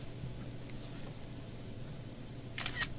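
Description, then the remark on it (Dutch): A phone camera shutter clicks near the end as the camera button is pressed to photograph a paper page for text recognition, a quick crisp double-snap sound, after a few seconds of steady low background hum. “En ik pak de camera knop.”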